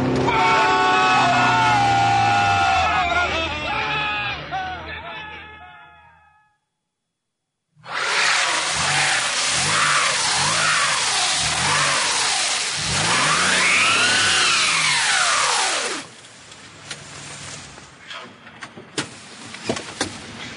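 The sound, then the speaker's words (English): A car engine revs hard in repeated surges, its pitch climbing and dropping in long arcs, as tires spin on a frozen snow crust. A harmonic, tonal passage and a brief silence come first; scattered clicks follow. “The friction from the rapid rotation of the tires creates a thin layer of water on top of the frozen snow crust.”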